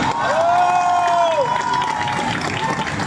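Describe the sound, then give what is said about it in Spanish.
A large crowd cheers and applauds Franco Parisi loudly and steadily, a dense roar of clapping and shouts with a sharp whistle sliding through near the start. “Por eso, lo que ha hecho Franco Parisi no es menor y se merece nuestro respeto y nuestro aplauso.”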